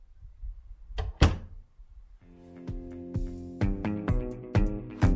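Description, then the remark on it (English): The front door of the principal's house opens with a solid clunk and a heavier thud, then steady background music with soft rhythmic beats fades in and continues. No one speaks. “the front door opened, and Wei Shen skulked where he wouldn't be seen.”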